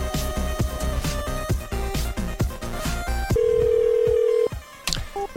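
A rapid run of telephone keypad beeps as a telemarketer dials a home phone, followed by one long, steady ring tone, loud, with no one picking up and no voices.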